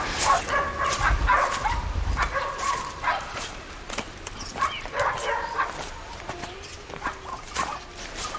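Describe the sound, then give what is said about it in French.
Dogs in wild countryside bark repeatedly in sharp, irregular, loud bursts, with a few higher yips and whimpers mixed in and a low rumble underneath at the start. “au niveau des animaux, il faut des chiens.”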